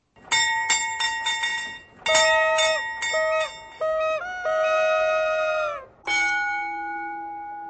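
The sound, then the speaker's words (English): The bells of Prague's astronomical clock on the Old Town Square, dating back to the Middle Ages, chime: a quick run of bright strikes, then ringing tones that step between pitches, ending on a lower sustained note. No one speaks. “It is, in fact, Prague's famous astronomical clock on the Old Town Square, which dates back to the Middle Ages and includes figures of the 12 disciples.”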